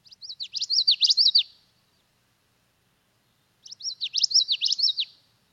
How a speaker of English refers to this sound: I was out walking in the Wabisa wetlands yesterday, and I heard a common yellowthroat. So we're going to play the common yellowthroat for me,